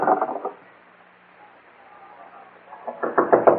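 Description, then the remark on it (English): Knocking on a door as the person inside is told to open up, in two bursts of rapid, fairly loud raps separated by a quiet pause of about two seconds. “Open up, Morgan. We know you're inside.”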